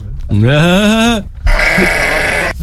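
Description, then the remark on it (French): A person mimics a sheep with two loud bleats: first a long, quavering baa with a wobbling pitch, then a shorter, rougher, more strained one right after. “Ça y est, tu fais le mouton.”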